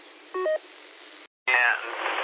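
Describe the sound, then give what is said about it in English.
Steady, thin radio static hisses throughout, broken by a couple of quick electronic tones and a brief dropout, then a garbled, unintelligible voice bursts through the noise. “trying to come in there, but I can't make it nothing out but just white noise.”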